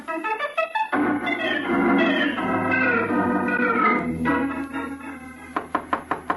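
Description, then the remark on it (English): Orchestral music swells and fades, then a rapid series of about six loud, sharp, insistent knocks pounds on a door near the end. “All right, you don't have to break down the door.”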